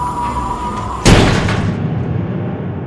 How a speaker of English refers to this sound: Then cut, as the trap door slammed shut.